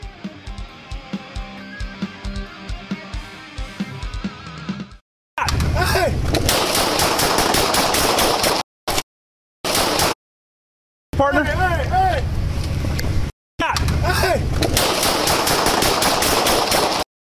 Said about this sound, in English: hold traffic, shots fired. 500 East 41st Street, extended stay.